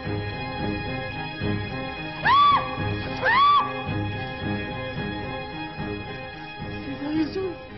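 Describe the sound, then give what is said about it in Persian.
A woman screams in fear twice in quick succession, short, shrill and loud bursts rising and falling in pitch, over a low steady background hum, with quieter vocal sounds afterward. “این فریاد ترس بود، نه از ناراحتی.”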